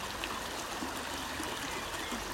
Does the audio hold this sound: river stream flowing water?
yes